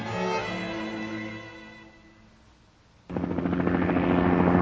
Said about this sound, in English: Immediately, I knew something was happening. I heard the sound of helicopters. I could see them flying in the sky a couple blocks away from where I live.